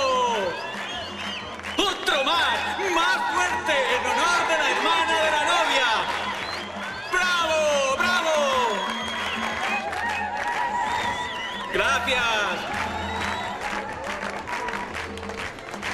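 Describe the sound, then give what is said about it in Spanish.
Loud, sustained applause from a crowd of wedding guests in honor of the bride's mother, with cheers and shouts of bravo rising over the clapping throughout, and a few voices calling out in the mix. “Un poco flojo, el aplauso fuerte en honor de la madre de la novia.”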